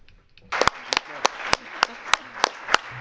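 Audience applause begins after a brief quiet moment, a steady wash of clapping punctuated by sharper, evenly spaced claps roughly every third of a second, moderately loud throughout.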